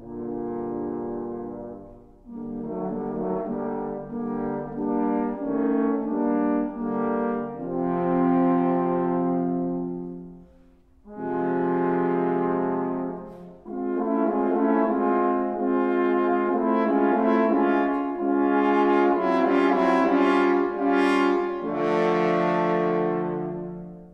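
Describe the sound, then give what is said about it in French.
Three French horns play the dark, stern theme of the big grey wolf from Peter and the Wolf in sustained, blended chords, loud and solemn, in several phrases separated by brief pauses, with no talking over them. “Écoutez les trois cors sévères et sombres.”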